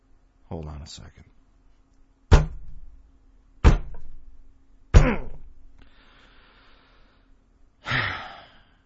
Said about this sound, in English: have you ever heard Adam Curry bang his head against the table on a podcast?